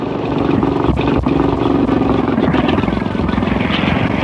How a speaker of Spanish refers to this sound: ¿Pero qué sucede? Inesperada contingencia. El motor de la lancha empieza a fallar ostensiblemente, resoplando como si se le fueran agotando las fuerzas.